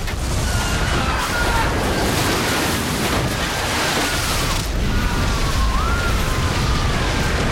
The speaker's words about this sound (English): The windows give way and water floods into the ballroom, knocking the people off their feet, swamping them all.